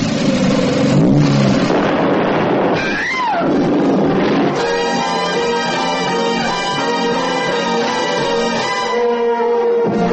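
A racing car engine revs hard and loud, its pitch swooping up and down in sharp sweeps before settling into a steady, roaring high-pitched drone with layered harmonics.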